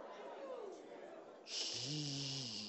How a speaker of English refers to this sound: Now your breathing changing. Because the Holy Ghost says so. I say your breathing changing. You were short-winded, but now you can hold it a long time because something happening in here.